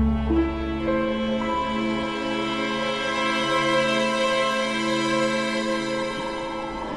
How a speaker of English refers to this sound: What's that? An alarm I repaired.